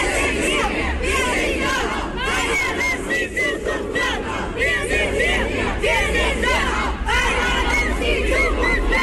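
A crowd of about 200 protesters shouting together in front of a government building, a loud, continuous roar of many voices with rising chant-like surges throughout, no single voice standing out.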